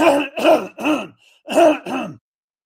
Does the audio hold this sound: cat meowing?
no